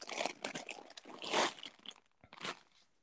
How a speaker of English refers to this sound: I'm opening this bag. Does it smell?